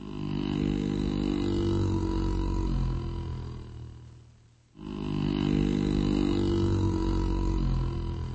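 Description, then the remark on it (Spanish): Bears at the Prague zoo, just awake from their winter sleep, growl and grunt in deep, rumbling bursts, loud, in two long stretches split by a brief pause near the middle. No one speaks. “Los osos del zoológico de Praga ya se han despertado de su sueño invernal.”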